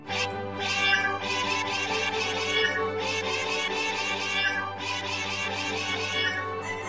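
Many cats meow at once in a loud, overlapping chorus, their cries rising and falling continuously with no pauses, as if a crowd of cats is calling all around.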